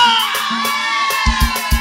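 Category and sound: crowd, audience shouting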